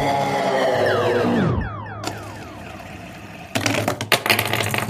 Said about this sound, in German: Mein Fidget Spinner ist mir aus der Hand gefallen. Von deinem Kaffeebecher ist er runtergefallen? Ja.